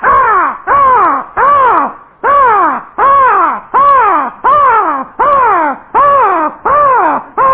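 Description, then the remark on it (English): A crow caws loudly, about ten harsh, hoarse calls in a steady, evenly spaced rhythm, one after another with no pause and no other voices. “And a crow is cawing.”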